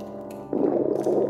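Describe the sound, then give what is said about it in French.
A hungry stomach gurgles: a bubbling rumble that swells in abruptly over a faint steady hum and churns loudly for under a second. “c'est juste mon bite qui gargouille parce que j'ai la dalle.”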